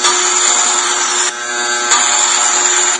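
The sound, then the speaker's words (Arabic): A children's hair clipper game app plays its shaving sound for a few seconds: a loud, even electric buzzing drone with a bright, raspy edge and slight shifts in tone, with no talking. “الآن اشتغلت الماكينة، اللي عليك أنك أنت تقرب شعرك من جهة الكاميرا فقط وراح تسمع صوت الحلاقة.”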